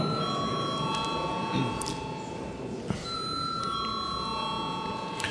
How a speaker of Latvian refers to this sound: Lūdzu arī Saeimu balsot par. Paldies, lūdzu zvanu.